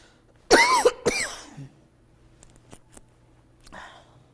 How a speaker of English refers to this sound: I was wondering how far I'd get in my sermon before I started coughing.